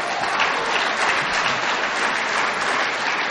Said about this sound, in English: But you can only clap for half of that.